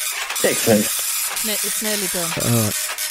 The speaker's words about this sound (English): it's a slow printer as well. It's a printer score. Slow printer.